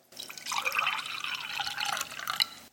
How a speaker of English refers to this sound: The next thing Jesus did is he took some wine or some juice, as we take, and he poured it out.